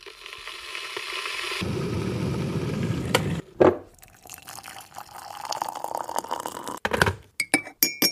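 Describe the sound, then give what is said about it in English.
Tea being made: a steady pour of liquid, then a sharp clink of china, softer stirring and clattering, and a few bright final taps of a spoon against a cup. “Let's first start by making ourselves a nice cup of tea and get ready for the episode.”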